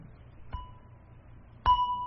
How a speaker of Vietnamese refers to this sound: Trước khi mình thỉnh chuông á, là mình phải cầm cái dùi lên và mình thức cái chuông 2 cái trước. trước khi có 3 tiếng là phải thức nó 2 cái.